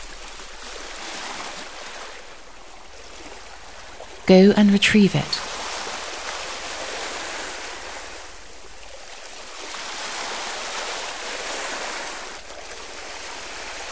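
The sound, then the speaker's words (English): Sea water laps and washes steadily close by, a continuous soft rushing that swells and eases slowly, with a voice speaking briefly over it partway through. “In the sea close by, there is a bottle floating in the waves.”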